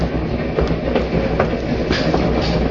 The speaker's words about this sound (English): The wheels of the train must have been listening to what that woman said, because they repeated it. Murder. I couldn't breathe. And suddenly the wheels screamed.